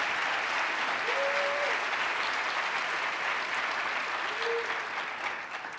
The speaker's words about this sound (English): Don't make Lovely clap alone. Let everybody clap.